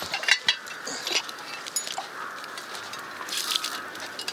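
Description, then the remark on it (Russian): A plate breaking: a few sharp ceramic clinks and scattered shards clattering, spread over several seconds at moderate loudness, with a faint ringing tone underneath and no voices. “Вот, видите, пока, пока смотрел, что собака сдохла, тарелку извольте разбили.”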